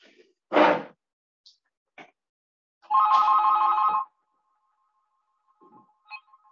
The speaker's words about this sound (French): Voilà, il y a une petite cloche là, voilà, ça y est, c'est arrangé.